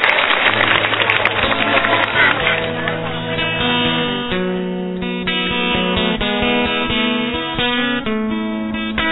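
A crowd claps and cheers loudly for the first few seconds while a band starts up underneath; the applause fades as the music takes over with a steady beat.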